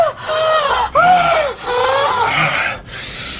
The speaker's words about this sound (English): More gasps.